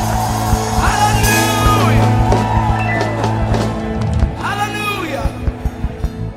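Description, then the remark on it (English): An audience shouts and whoops loudly in two rising bursts of voices, a shout of victory praising the Lord, with scattered hand claps and a steady crowd roar running underneath. “Shout to the Lord with a shout of victory.”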